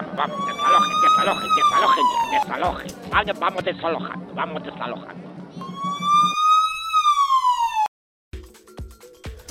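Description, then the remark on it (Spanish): A police siren wails in two rising-and-falling sweeps, loud over a man shouting orders and the murmur of a crowd, then cuts off abruptly, as police arrive to clear a christening party where the guests are running in a great commotion. “Acaba de llegar la policía, que está desalojando el bautizo.”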